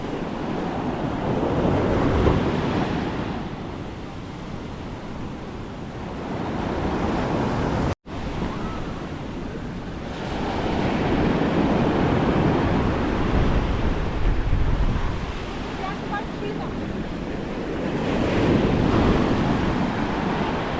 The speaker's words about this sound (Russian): Ну вот, рубеж взят, благополучный выход, а то я уже волновалась, там такие волны были сильные. Ну, волновалась, говорю, волны сильные были.